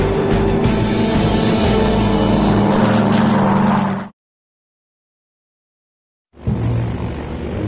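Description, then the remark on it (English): Loud roar of propeller airliner engines during the takeoff roll of Buffalo 168 on runway 09, the plane loaded with over 20 passengers, a steady droning thrum with a buzzy tone. It cuts off abruptly into silence for about two seconds, then resumes. “There you go, 168, we're rolling.”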